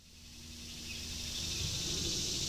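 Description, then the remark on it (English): A steady, continuous drone of insects buzzing and trilling across an open field of chin-high grass beside a rural road in hot, sticky summer air, gradually swelling slightly louder, with a faint low hum underneath and no voices. “The summer air is hot and sticky and buzzing with insects”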